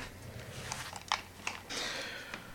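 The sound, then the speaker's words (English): A few quiet, sharp clicks of a Lightning cable being pulled free from an Apple Magic Keyboard with numeric keypad, then a soft scraping slide and a light knock as the keyboard is set down on a table. No one speaks. “All right, so let me just turn the keyboard off, take the lightning cable out, put it back on the table, and let me just go and grab my iPhone.”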